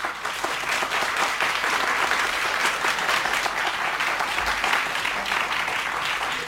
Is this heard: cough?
no